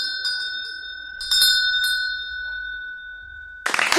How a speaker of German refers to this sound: Ich werde jetzt läuten und dann kann's losgehen.